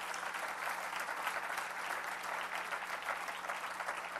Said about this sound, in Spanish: ¿Cuántos están agradecidos con el Señor? Dele un fuerte aplauso a Cristo, hermano.